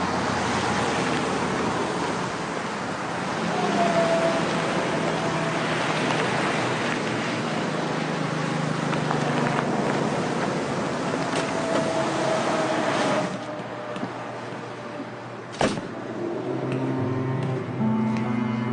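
inside a moving bus

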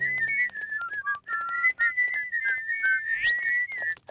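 human whistling

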